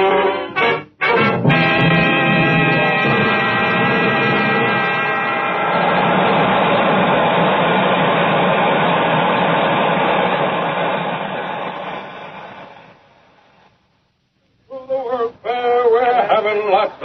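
A loud, steady rocket ship engine drone with layered harmonic tones roars continuously for about twelve seconds, on board a rocket ship on September 20th, 2000, then fades out, followed by silence and a brief burst of voices.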